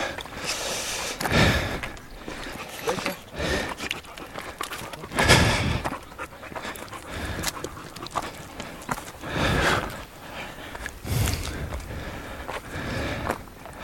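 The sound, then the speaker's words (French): Breathy huffs from a hiker's dog panting come in repeated bursts, mixed with soft footsteps on a trail along a mountainside near the summit of a ridge and a light outdoor hiss; nobody speaks. “Randonneur et son chien.”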